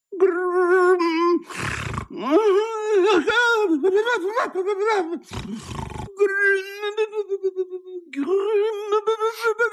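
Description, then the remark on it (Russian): A man, Uncle Julius, asleep and having a nightmare, moans and groans in long, wavering cries, broken by a couple of harsh, rasping snore-like breaths, ending in a stuttering, pulsing moan; loud, no talking. “Наверное, дяде Юлиусу приснился кошмар. Не надо ли доложить об этом лучшему в мире специалисту по храпу?”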